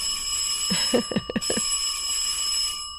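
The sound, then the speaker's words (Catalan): A theatre call bell, rung before performances begin as the first, second and third calls, rings continuously for a few seconds with a bright, steady metallic tone, and a few brief soft knocks sound partway through before the ringing stops. “El timbre, El timbre del teatre. Abans de començar les representacions, quan toquen primeres, toquen segones, toquen terceres.”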